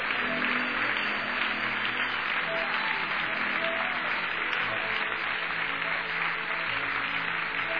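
A church audience claps hands above their heads in a dense, steady wash of applause that holds at an even loudness for the whole stretch, with faint voices mixed underneath.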